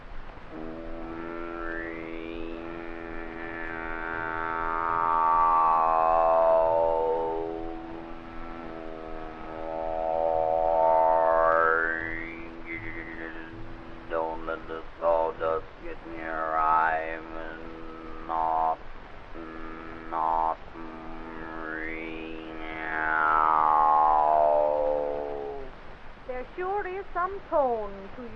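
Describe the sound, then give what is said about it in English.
A human voice imitates the noise of a newly built sawmill, holding a steady buzzing drone with overtones that repeatedly rise and fall like a saw blade whining through wood, fairly loud, about four swells. “Oh, it's pretty noisy now since they built that new sawmill. All you hear all day is this.”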